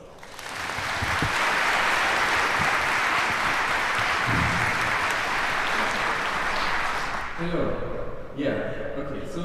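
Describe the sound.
Loud, dense applause from an audience, a steady wash of clapping for about seven seconds that fades out as a man begins speaking.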